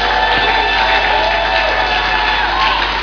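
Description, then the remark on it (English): A church audience gives Jesus a clap offering, breaking into loud, sustained applause and cheering, with a dense wash of clapping mixed with whoops and shouts that holds steady throughout. “Give Jesus a big clap offering.”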